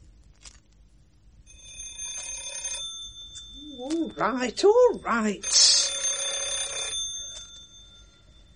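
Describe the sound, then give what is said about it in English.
A doorbell rings insistently, a bright metallic jangle that runs on for several seconds, while a man's voice calls out briefly over the ringing. “No need to keep on. I heard the first time.”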